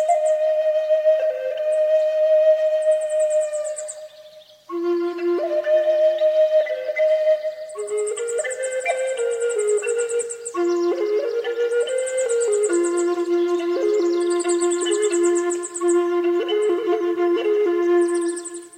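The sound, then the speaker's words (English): A wooden flute plays a slow, unaccompanied melody of long, sustained breathy notes that glide between pitches, heard clearly and steadily throughout with a brief pause near the middle. “And the next morning when I came in into the Quonset, there was this beautiful, beautiful sound.”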